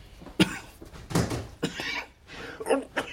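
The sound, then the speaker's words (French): A man coughs several times in irregular, harsh bursts, moderately loud, with short gaps between each fit. “Vous toussez beaucoup, n'est-ce pas?”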